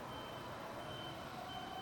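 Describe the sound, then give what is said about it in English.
A mobile phone's emergency alert tone for an alert message in Taiwan blares steadily and loudly. It is a harsh, continuous two-tone electronic wail sounding alone without any talking. “You heard my mobile phone with the alert message.”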